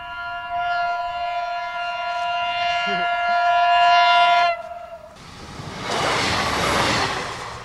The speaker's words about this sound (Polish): Jeżeli z taką prędkością jechał pociąg wczoraj tutaj, to można byłoby sobie wyobrazić, co tu się wydarzyło.